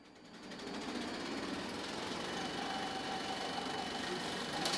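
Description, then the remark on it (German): A 35mm film projector motor whirs steadily as its shiny silvery wheels turn, with a fast, even mechanical clatter running throughout, moderately loud, no voices, running a Japanese film at night in a castle courtyard in Münzigen. “Die glänzigen, silbrigen Rädchen von diesem 35mm Filmprojektor drehen. Das Motor surrt, der japanische Film läuft in die Nacht raus und das Publikum hockt gespannt in den Plastikstuhl vor der Leinwand im Schlosshof zu Münzigen.”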